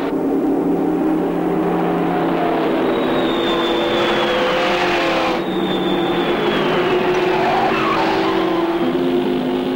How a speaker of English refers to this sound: As Machine Gun Joe throws his car into a 360-degree spin, Matilda the Hun rockets past in the buzz bomb, and Joe takes off after.